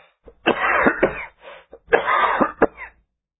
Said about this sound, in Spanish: Por la tarde me agarró un acceso de tos.